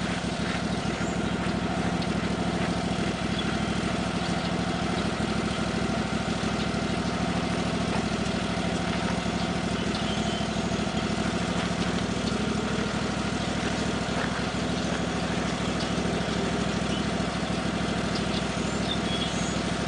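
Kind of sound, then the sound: vehicle, tractor engine idling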